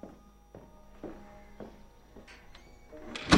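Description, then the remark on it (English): Soft footsteps cross a quiet room as Barbarina leaves Mozart's room, followed by a brief creak and then a door closing with a firm thud at the very end. “The noise of the door breaks Mozart from his thoughts.”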